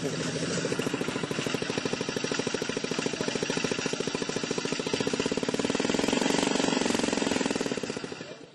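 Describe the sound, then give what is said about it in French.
A loud experimental engine runs steadily with no silencer on its exhaust, its rapid staccato firing pulses hammering away in a harsh, rattling rhythm that swells slightly near the end before cutting off. “C'est un peu bruyant, par exemple. C'est normal, parce qu'actuellement, il n'y a pas de silencieux à la sortie.”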